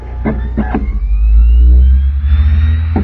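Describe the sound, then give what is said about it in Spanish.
A CD-ROM drive burning a CD spins faster and faster near the end of the burn, its high whine climbing steadily in pitch over a constant low mechanical hum, with a few brief clicks mixed in. “Y oyen que se está acelerando más el CD-ROM.”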